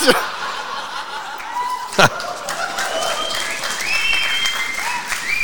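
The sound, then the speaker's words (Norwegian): Dull, muffled clapping from a crowd, soft and padded like hands in mittens, rising briefly in a steady patter with scattered chuckles and voices mixed in. “Er det luffer, der klapper?”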